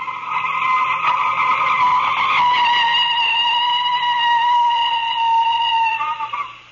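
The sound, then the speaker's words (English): A loud, sustained tire squeal as a car skids to a stop at the corner of 2nd Street, a high screeching whine holding steady for several seconds before cutting off abruptly, with no talking. “Stop the car. Okay, I'll stop it here at the corner of 2nd Street.”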